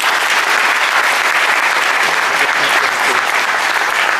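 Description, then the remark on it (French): Sustained audience applause at a tournament event, a dense, steady wash of many hands clapping at an even loudness throughout, with no clear gaps or distinct voices standing out. “C'est un très beau tournoi, un très bel événement, et pour ça, ça mérite encore des applaudissements. Bravo.”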